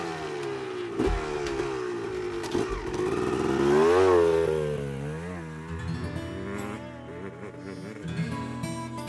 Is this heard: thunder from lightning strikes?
no